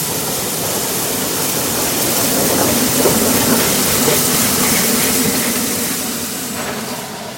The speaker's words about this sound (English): They stood on the platform and waited for the 3:19 train. Soon, they heard the train puffing and hissing its way into the station.